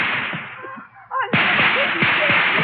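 Gunfire crackles over a steady wash of noisy background: several sharp, separate shots ring out after a brief lull, fairly loud and spaced irregularly.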